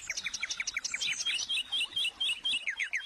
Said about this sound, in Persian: راستی تا حالا رفتین توی باغی که صدای قشنگ بلبل و نوای دلانگیز آب روان شما رو آروم کنه و لحظه ای دل و روحتون رو نوازش بده؟